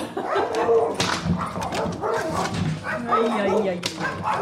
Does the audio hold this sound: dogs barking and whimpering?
yes